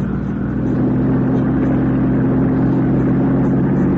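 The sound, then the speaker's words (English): A car engine roars steadily, a loud sustained drone with a rising harmonic tone as the car, lights switched off, accelerates hard during a chase, gaining on the car ahead; no voices present. “Gaining, all right, but what good is it? She makes this turn.”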